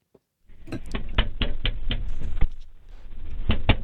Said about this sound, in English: First, you'll hear the knocking.